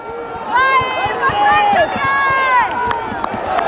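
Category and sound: crowd, football stadium crowd cheering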